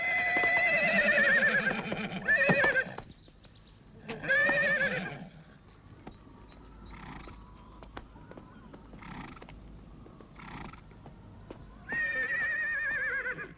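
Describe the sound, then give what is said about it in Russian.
A horse whinnies loudly several times, with long shrill neighs at the start and end and shorter snorting calls between, while faint hoof clops and sharp knocks sound in the background. “Держите коня!”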